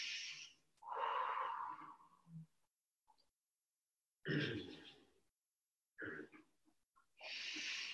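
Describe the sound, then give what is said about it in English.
Several loud breaths drawn in through the nose during a guided breathing exercise, with a raspy, wheezy texture, long drawn airy intakes and exhales separated by short silences, with no talking. “And let yourself go into now the water breath, because we're going to let go of all the thoughts, all the mind mesh.”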